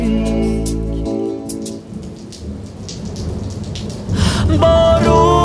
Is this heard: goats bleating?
no